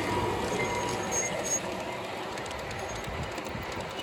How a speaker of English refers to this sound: You can see they have a pretty big oval of track. This is where people set up their stuff. And it looks like we have a Southern Pacific train headed our way.